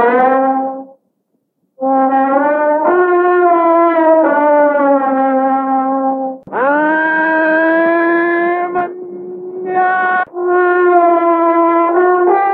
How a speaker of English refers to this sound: An elephant trumpets in response to the boy.